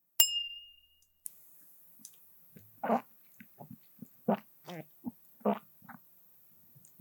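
Glasses clink once in a toast between coworkers, a bright ring that lingers and fades over about a second, followed by a quieter knock and then soft gulping, murmuring vocal sounds.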